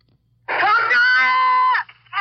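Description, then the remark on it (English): A 5-year-old boy beside a bridge screams for his parents during the fall of Seoul: one loud, high-pitched, sustained cry lasting over a second, then the start of another wail, over a faint low hum. “That's a 5-year-old boy beside a bridge, screaming for his parents.”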